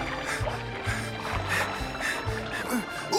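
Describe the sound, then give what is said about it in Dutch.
A motorboat engine roars with a low, throbbing drone and rhythmic pulsing over churning, splashing water as the boat races away, staying loud and steady throughout. “De duiker keerde met zijn vangst terug naar de boot en klom erin. Deed de motor aan en raceerde er vandoor.”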